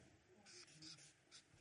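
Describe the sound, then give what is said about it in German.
Scratchy, hissing strokes of a marker or chalk writing the word "Willkommen" on a board beneath a drawn door. There are several short bursts in an irregular rhythm, fairly faint, with no talking. “ich schreibe jetzt hier Willkommen drunter.”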